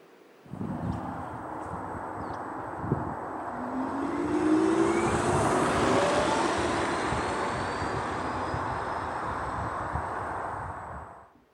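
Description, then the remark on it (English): An electric car's synthetic drive sound: a steady whirring hum with a tonal whine that glides upward in pitch, swelling slightly in the middle and holding for about ten seconds before cutting off. “And now let's go back to electric cards.”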